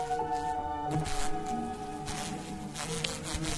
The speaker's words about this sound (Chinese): 是黄蜂！